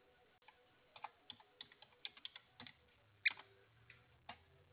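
Irregular bursts of keyboard typing as someone Googles an avian vet's details, a couple dozen sharp clicky keystrokes in uneven clusters with short pauses between them, fairly quiet, over a low steady hum.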